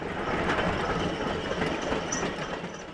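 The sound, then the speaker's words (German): Rail handcars roll steadily along the old tracks of the disused Wriezen railway line, their wheels giving a continuous rumble with a faint, irregular metallic clatter and no voices. “Der 54-Jährige schaut etwas zerknirscht auf seine Draisinen, die derzeit noch über die alten Gleise der stillgelegten Wriezner Bahn rollen.”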